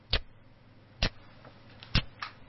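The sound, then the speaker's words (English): A voice imitates the ticking of a rainwater drip in a lounge, with three sharp, evenly spaced clicks about a second apart, plus a couple of fainter ones between them. It sounds quiet, with no talking. “Why am I hearing a ticking noise?”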